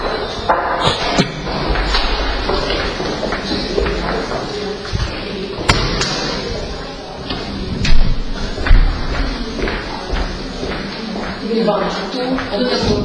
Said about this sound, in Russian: Я сейчас пойду ту дверь закрою.